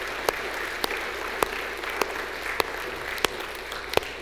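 A church audience applauds in a steady wash of clapping to receive a new member into the fellowship, with a few sharper, louder claps standing out at fairly regular intervals. No one speaks over it.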